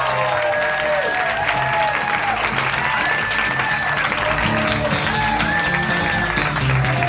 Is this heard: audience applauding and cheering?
yes